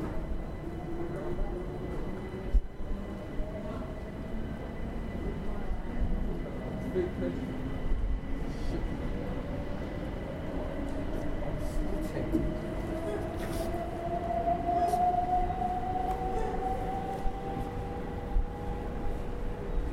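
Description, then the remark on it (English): A train idles at a busy station platform, a steady low rumble with a rising whine of motors and occasional clanks, while faint crowd chatter and announcements murmur in the background. “Please mind the gap between the train and the platform edge.”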